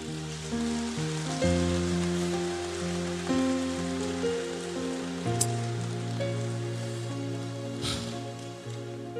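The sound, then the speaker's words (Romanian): A crowd claps steadily in a dense, crackling wash, while sustained low keyboard chords shift slowly underneath for the whole stretch. “Să aplaudăm cuvântul ăsta.”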